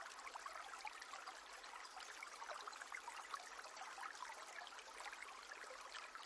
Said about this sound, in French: L'eau coule sur les pierres, formant ici et là de petites cascades blanches qui emportent les feuilles et les branchages sur leur chemin.